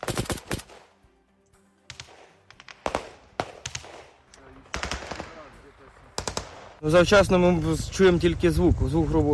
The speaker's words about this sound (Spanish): Este es el sonido en el frente de Kharkov, que no estaba tan lejos, a 80 kilómetros, balas y conversaciones en ucraniano.